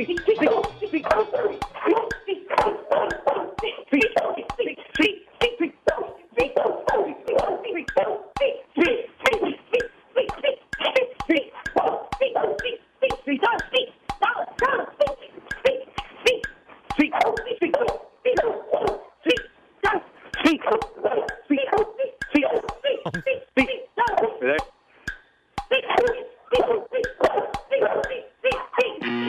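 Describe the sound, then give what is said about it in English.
A Cane Corso, a Mastiff-type dog named Darla, barks over and over in quick succession during a timed 30 seconds, with 35 sharp barks counted, heard through a muffled, telephone-quality line. “35 barks.”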